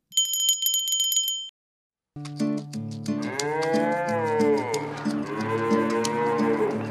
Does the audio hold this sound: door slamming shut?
no